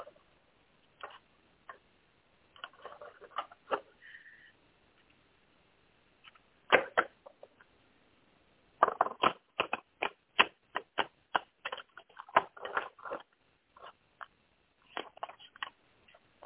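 Cards are shuffled for a card reading in several bursts of rapid papery flicks and snaps, separated by short pauses, with a longer flurry in the middle; no one speaks.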